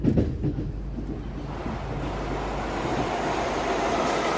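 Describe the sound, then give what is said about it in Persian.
A passenger train rolls steadily along the rails, a continuous rumble with faint rhythmic clatter and a broad hiss that builds slightly over a few seconds. No one speaks. “مسافرین محترم، لطفاً برای ادای نماز از قطار پیاده شوید.”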